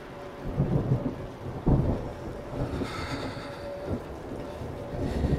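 A storm rumbles and roars steadily, with a thin, sustained whistle of wind through every crack and brief gusty swells rising over the dense low noise. No voices are present.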